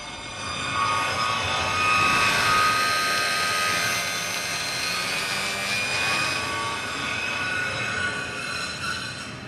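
A dense, steady roar of city traffic fills the whole stretch, with a few short, high car-horn honks sounding over it. No one speaks.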